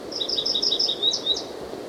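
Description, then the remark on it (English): Dark-eyed junco calls: a quick, even series of about a dozen thin, high chips, then a couple of slightly separate notes, moderately soft over a steady low background hiss. “Okay, this is a junco, being noticed.”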